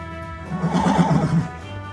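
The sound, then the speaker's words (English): A tethered horse at a cowboys' campfire whinnies once, a quavering, wavering neigh lasting about a second, clear against a low background hum. “Just across this corduroy bridge are a crowd of cowboys round a fire with their horses tethered.”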